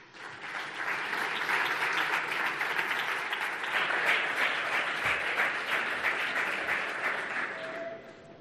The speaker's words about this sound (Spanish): te voy a pedir, por favor, que vengas al escenario. ¡Un aplauso!